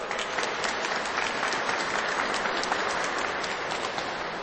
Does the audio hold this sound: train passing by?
no